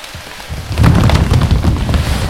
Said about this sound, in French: Rugit le tonnerre. Inoubliable et sans nom.